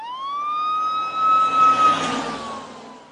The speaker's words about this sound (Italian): Ma quando imboccammo via del Borgoratto, dove abito io, annusai uno strano odore di bruciato. E ci passò davanti un camion dei pompieri a sirene spiegate.